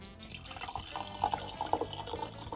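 Château Mercian Koshu white wine, 2024 vintage, pours steadily into a glass for a couple of seconds, with gurgling, bubbling tones rising slightly as it fills, moderately quiet, no talking.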